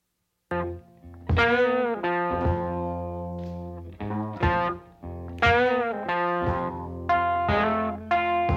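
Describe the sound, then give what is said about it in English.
A loud 1951 electric blues recording: a gritty, distorted electric guitar plays a repeating riff of strong, sustained chords and notes that bend and slide, with sharp attacks every second or so. “But you'll hear, I mean, from here, this is essentially the foundation of modern blues.”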